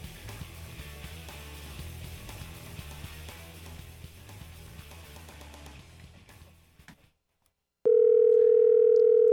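Background music fades out into a brief silence, then a loud, steady telephone dial tone starts abruptly and holds unbroken to the end as a phone call is being placed.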